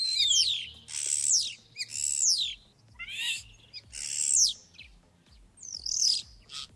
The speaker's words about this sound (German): Jetzt kommt der Star. Ich zeige euch erstmal, wie der sich anhört.